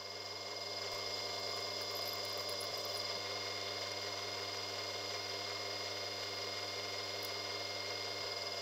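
A small power drill whirs steadily and evenly, drilling pinholes in pliers handle pieces using a flat piece as a guide, a constant motor drone with a slight metallic edge that never pauses or changes pitch. Nobody speaks.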